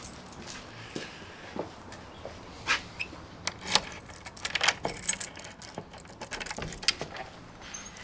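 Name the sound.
bunch of keys jangling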